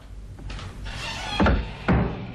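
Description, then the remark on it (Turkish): A kitchen door is eased open slowly with a few short bumps and rattles at uneven intervals, the last two louder, over a low background hum. No one speaks. “Şimdi kapıyı yavaşça açalım.”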